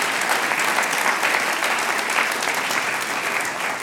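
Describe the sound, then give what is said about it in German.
An audience claps steadily for a few seconds for a harmonica player who reached the next round of the Steirischer Harmonika-Wettbewerb. The applause is a dense, even wash of many hands at a constant loud level with no voices standing out. “Das ist schon einmal einen Applaus wert.”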